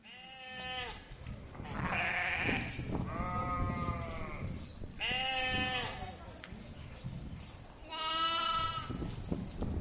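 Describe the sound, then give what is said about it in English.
Several loud, wavering sheep bleats overlap one another in close succession, some higher and some lower, with a steady rustling background like a flock. “They couldn't get out without the shepherd.”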